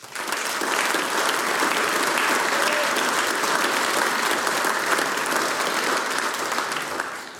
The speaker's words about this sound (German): Wir sind Blasmusik. Das haben uns die Burschen heute bewiesen. Applaus für die Blaskapelle EPP.